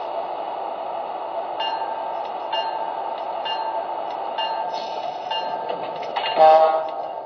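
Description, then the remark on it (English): A train from New York pulls into a station platform on track one in Philadelphia with a steady mechanical rumble and faint metallic whines, swelling into a brief screech of brakes near the end. No one speaks. “land on track one from New York, train number 155, the Embassy.”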